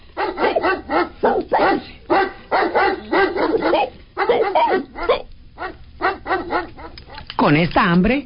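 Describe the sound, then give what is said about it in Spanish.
A small dog yaps and barks in quick, high-pitched bursts, fairly loud, with a few whiny, drawn-out yips near the end. “La abuela no se cansó, siguió tejiendo y tejiendo trompos, cuerdas para saltar, ropa y un perrito muy peludo y juguetón.”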